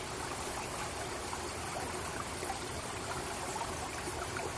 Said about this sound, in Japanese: やっと水がぬるみ、せせらぎの音は心地よくゆるゆると流れていく。